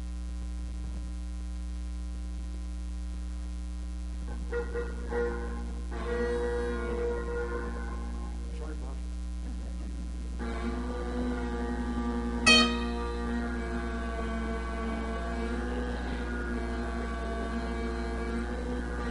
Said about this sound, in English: I can show you what a wavering drone sounds like, and it doesn't sound very nice. It can be very distracting.